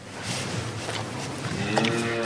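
A cow in the camembert-making region of Normandy, northern France, licks and snuffles a microphone, producing loud, wet rasping swipes in an uneven rhythm, with a brief low tonal grunt near the end.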